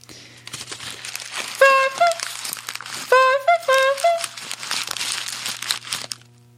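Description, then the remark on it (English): Footsteps crunch steadily through dry forest leaves, a continuous crackling rustle, broken by about three loud, bright honks of a clown horn, each bending in pitch before the crunching tapers off. “No, no, this is walking through the forest on a bed of leaves.”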